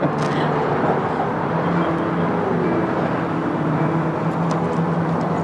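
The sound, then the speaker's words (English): A bus engine idles at a bus depot, ready to depart, a steady low rumble with a faint droning hum that holds evenly throughout, with no voices. “Back at the bus depot, they find a bus ready to depart.”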